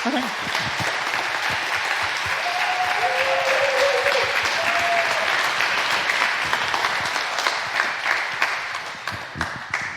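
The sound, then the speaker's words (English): A crowd applauds at the end of a speaker's talk, before questions: dense, steady clapping at a strong level, with a few brief voiced tones surfacing partway through before the clapping thins slightly toward the end. “That was a good applause.”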